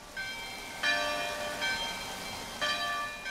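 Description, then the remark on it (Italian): Church bells of the old chapel of the Madonna di Bertè, above the village of Lumino, toll in a slow, uneven series of four strikes, each ringing on with rich overtones, over a steady low rush of the Buzza mountain stream flowing a few metres away in the background. “Le campane che stiamo ascoltando sono quelle dell'antica chiesetta della Madonna di Bertè, sopra il villaggio di Lumino, e il rumore che si sente in sottofondo è quello del torrente che passa a pochi metri.”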